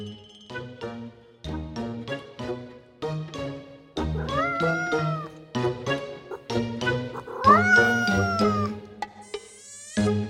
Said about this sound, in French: Il a 3 ans maintenant, c'est déjà du bon gros chat. Il est noir et blanc. Donc, c'est ce qu'on appelle un tuxedo, je crois.